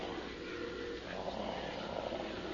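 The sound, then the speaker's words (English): A low, steady rumbling purr from a well-fed tiger at the bottom of some steps, continuous, with a rough, grainy texture that holds evenly for a couple of seconds without any voices. “It sounds like it's purring. Yes, purring. The purring of a well-fed jungle cat.”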